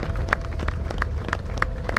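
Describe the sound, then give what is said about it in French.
Applause from thousands of French people for their 13 heroes as a funeral convoy of 13 hearses, escorted by gendarmerie motorcycles, passes on the Pont Alexandre III. A steady, rhythmic beat of claps repeats roughly three times a second, layered over a constant low rumble of many people. No voices stand out. “Les applaudissements de milliers de Français pour leurs héros, leurs 13 héros.”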